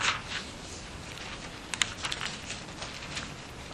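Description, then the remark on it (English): Soft, crisp rustling of paper pages being flipped while looking for a page, a series of quick brushing swishes over a low hiss, fairly quiet, with no talking. “hold on, let me just find a page here. I should look at my paper.”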